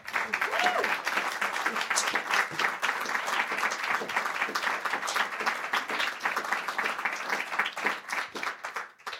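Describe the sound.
A crowd applauds steadily, dense overlapping claps filling the whole stretch at a fairly loud, even level, with faint voices mixed into the clapping.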